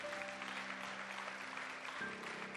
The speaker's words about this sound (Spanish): Den un aplauso a todos aquellos que han tomado este compromiso.